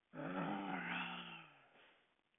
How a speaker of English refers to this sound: He growled as he ambled off into the night. He turned around one more time before disappearing into the forest.